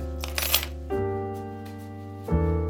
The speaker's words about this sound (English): The sound of the deadbolt opening and then that sound of pushing the door open, those are sounds I've always known.